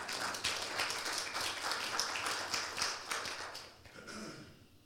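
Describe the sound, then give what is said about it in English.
An audience claps together in a dense, steady wash of many overlapping hand claps, holding strong for several seconds before thinning out and fading away at the end. “That's why we clap.”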